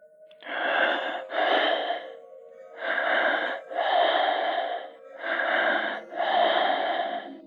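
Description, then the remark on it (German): Heavy, raspy breathing from a caller comes through a thin telephone line: three slow cycles of paired inhales and exhales, steady, with a faint constant hum beneath and no talking. “Dann setzt ein schweres Atmen ein.”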